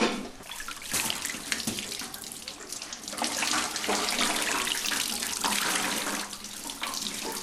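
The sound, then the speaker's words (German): Water splashing and streaming steadily as wet laundry is wrung out, with bursts of pouring and dripping over several seconds and no voices. “Ich krieg das ganze Wasser gar nicht raus.”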